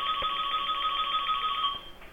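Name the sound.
phone ringtone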